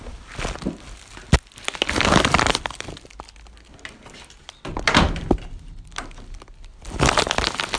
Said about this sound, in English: Close the back door, the back door, which is a sort of screen door.